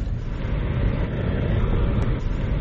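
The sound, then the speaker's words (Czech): Steady, continuous rumble of a small city car driving through the streets of Budva looking for a parking space, with low engine and road noise holding an even level throughout and no voices. “I tako se autor Zipa probija kroz budvanske ulice u potrazi za prostorom dovoljnim za automobil koji slovi za mali, gradski.”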